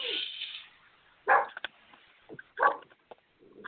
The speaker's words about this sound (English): Though I got my crazy dog just barking that somebody's coming in.